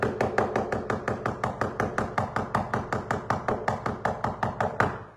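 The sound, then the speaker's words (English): Rapid, steady knocking on a front door, roughly five raps a second for about five seconds, like someone pounding insistently. The raps are fairly loud, with no voices. “That's the way they used to knock when I forget to turn in my timesheet.”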